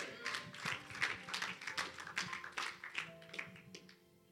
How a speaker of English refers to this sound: Clap for the Lord Jesus.